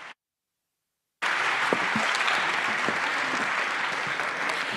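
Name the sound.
audience applause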